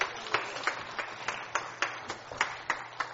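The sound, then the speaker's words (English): An audience gives the Lord a shout and a hand clap, clapping in steady unison at about three sharp claps per second, over a continuous wash of crowd voices and shouting. “Would you give the Lord a shout and a hand clap?”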